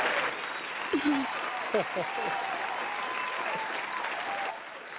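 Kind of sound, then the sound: crowd, applause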